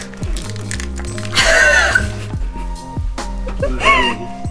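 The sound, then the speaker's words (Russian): Domestic geese honk in two harsh, loud bursts, one long and one shorter, over a steady low droning background. “Надеюсь, ты гусей не записал. Записал.”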